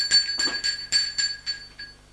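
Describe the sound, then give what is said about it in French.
A doorbell at someone's door rings in the afternoon in a quick, steady run of about seven bright, high metallic dings, each one fading fast, with no voices present. “Dans l'après-midi, on sonne à sa porte.”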